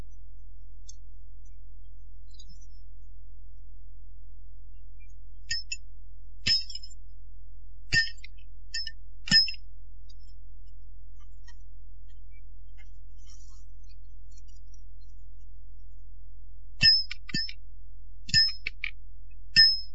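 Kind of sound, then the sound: impact, metal chains clinking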